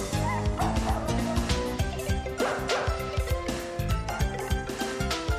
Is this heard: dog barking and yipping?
yes